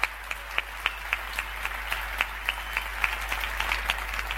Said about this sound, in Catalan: Un fort aplaudiment per a tots els que fan possible el voluntariat a Sitges.